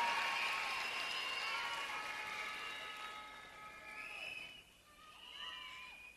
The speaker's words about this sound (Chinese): 俾啲掌声先啦，俾啲尖叫声先好吗？系咯， 多谢你哋。